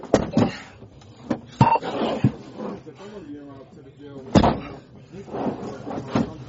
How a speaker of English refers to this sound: Stop kicking the door.